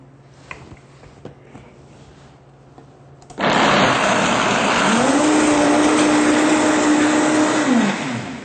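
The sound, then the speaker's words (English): A blender kicks on abruptly after a few seconds of quiet clatter, roaring loudly and steadily as it pulverizes 1 cup of macadamia nuts, its motor tone rising slightly before easing off near the end. “We want to run the blender long enough to make sure that the nuts are well pulverized.”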